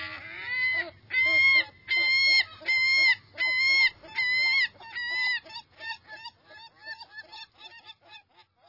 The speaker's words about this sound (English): So the next time you see a herring gull, take a careful look and listen to that unforgettable voice.